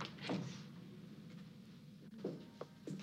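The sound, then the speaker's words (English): A sliding door rumbles along its track with a low, steady scraping, punctuated by a few soft bumps and thuds. “Is the front door to her apartment a slidey door?”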